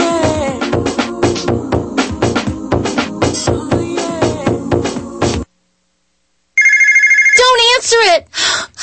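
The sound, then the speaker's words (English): A person talks, then after a brief silence a telephone rings loudly in a short electronic trill, a debt collection call, before the voice resumes over it. “These annoying collection calls.”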